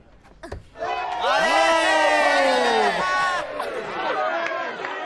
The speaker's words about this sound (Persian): باشه، اگه زاد ببرد جوری تشویق کنین انگار کاپ جام حذفی رو بردیم.